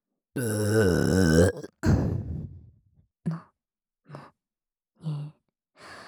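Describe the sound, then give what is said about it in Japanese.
A long, loud burp rumbles with a wavering pitch, followed by a shorter burp that trails off, then a few brief breathy grunts spaced out in the quiet. “ところでさ、これゲップと脇でしこらせてるだけだぞ。”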